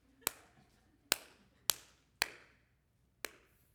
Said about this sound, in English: Look what I've done. Yeah, look what you've done. Let me just give you a quick applause because you're not going to get it in heaven.